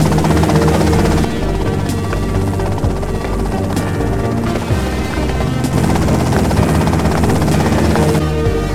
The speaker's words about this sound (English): Okay, that's them and the chopper.